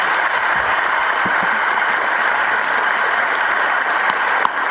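Sustained, dense applause from a large crowd at a business school event, welcoming the President of Bulgaria, Rumen Radev; steady and fairly loud throughout with no pauses, the clapping blending into a continuous wash of sound.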